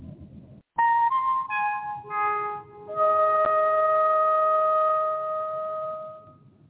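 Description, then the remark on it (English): A sequence of five clear, synth-like tones rises and falls in pitch. The fourth note drops lowest, and the fifth is held long and bright before fading out. A short low rumble comes first. The five tones are played on the talk radio show The Other Side of Midnight. “Play the five tones.”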